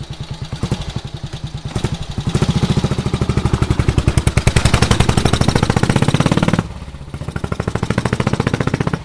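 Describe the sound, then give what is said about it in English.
A 1961 motorcycle engine runs with a loud, rapid, steady thumping beat. It briefly falls quieter near the end, then picks right back up. No one speaks. “And this is the same bike we have here today, and that was in 1961.”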